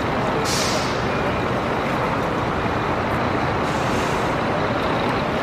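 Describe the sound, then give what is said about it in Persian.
A large bus rumbles steadily as it pulls in and parks at a bus terminal in Erbil, Iraqi Kurdistan, its engine drone filling the space, with a sharp hiss of air brakes near the start and traffic noise around it. “محوطه ترمینال و اتوبوسی که پارک میکنه.”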